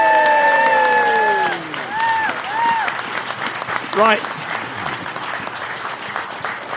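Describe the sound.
A live audience breaks into sustained, dense applause, with a few shrill whistles and cheers near the start and a brief voice cutting through midway as the clapping carries on.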